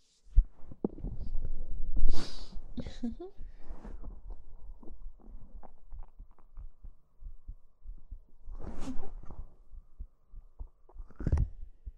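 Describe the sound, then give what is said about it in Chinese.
A person's muffled heartbeat thumps steadily throughout, low and regular, with occasional soft breathy rustles and faint murmuring drifting over it. “有没有听到主人心跳的声音呢？”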